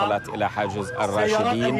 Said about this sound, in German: Und plötzlich ist die Strecke zwischen den seit Monaten eingeschlossenen Rebellengebieten und dem Westen der Stadt wieder so kurz, dass der Al Jazeera-Korrespondent regelrecht überrascht ist, als er die Sirenen von Krankenwagen hört.